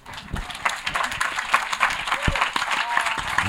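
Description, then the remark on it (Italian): Audience applause after a talk with slides, a dense, steady wash of many hands clapping at once, moderately loud and sustained without pause. “Adesso potete applaudire, grazie.”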